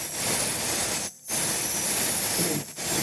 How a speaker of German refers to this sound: Lebendig und voll? Ja, müssten wir jetzt nicht den Luftballon ganz auffüllen?